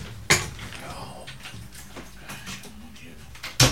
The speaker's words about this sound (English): Excuse me, let me close this door. Wait.